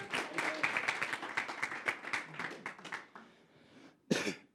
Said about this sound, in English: Big round of applause.